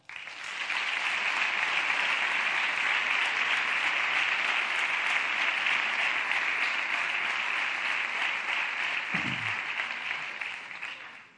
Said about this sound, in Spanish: En ese instante, la marcha rompe el silencio y todos aplauden.